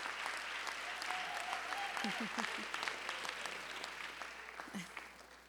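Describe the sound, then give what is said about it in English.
A graduation ceremony crowd claps steadily for the Hope Corps graduates in a dense, continuous wash of applause, with a few brief cheers or voices rising over it, sustained for several seconds at an even level. “Give one more round of applause for our Hope Corps graduates.”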